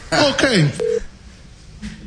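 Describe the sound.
A short telephone dialing beep as a call is placed to a radio show guest: one steady electronic tone lasting a fraction of a second, just after a brief burst of voice, then quiet line noise.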